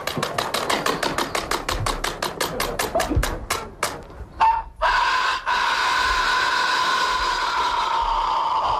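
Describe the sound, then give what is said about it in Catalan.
A man at an imitation contest imitates a rooster crowing with the help of a hand fan: a quick run of accelerating flapping claps like beating wings gives way to a long, strained, sustained crow that holds steady for several seconds. “Encara un altre cas, en aquest cas un home que no només es va deixar la veu, sinó que es va ajudar d'un ventall per imitar alguna espècie terrorífica de gall.”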